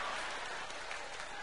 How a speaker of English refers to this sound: Let me hear the women clap that are loyal to their men, truthfully. Let me hear you clap. Okay, now, let me hear the women clap that have men that are loyal to them, truthfully. I see y'all some disillusioned ladies clapping right now.